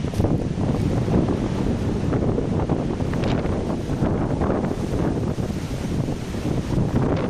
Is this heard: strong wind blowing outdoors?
yes